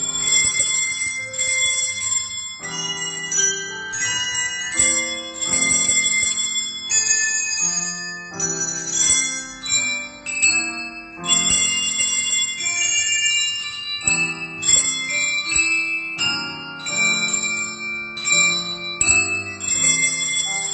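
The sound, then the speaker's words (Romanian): Small handbells ring one after another in a steady, melodic sequence, their clear bright tones overlapping and fading, played by schoolchildren in a class lesson, each pupil ringing one bell in turn while watching the board and their teacher, with no talking over them. “La o altă oră, fiecare dintre elevi are un clopoțel. Cu ochii la tablă și la profesoara lor, sună clopoței după cum le vine rândul.”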